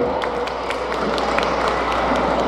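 Sustained audience applause for a band at a municipal Evangelical Day event, a dense, steady wash of many hands clapping with scattered sharper claps standing out, continuous and fairly loud throughout.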